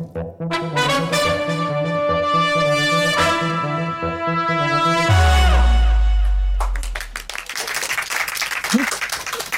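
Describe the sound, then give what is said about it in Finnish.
An audience at the Oodi Central Library, third floor, breaks into a burst of applause, a dense crackle of many hands clapping for the last few seconds, after a tonal musical jingle that ends in a deep low boom. “En ole vielä tottunut näihin aplodeihin, kun ensimmäistä kertaa saan olla täällä keskustakirjasto Oodin kolmannessa kerroksessa, jossa olemme joka perjantai, paitsi ensi perjantaina.”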